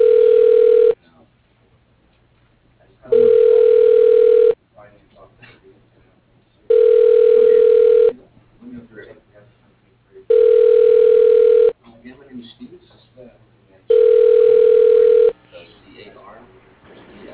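A phone call to Arnold Smith Excavating rings five times in a steady pattern before the voicemail answers, each tinny tone lasting just over a second with longer pauses between, and faint low murmuring in the gaps.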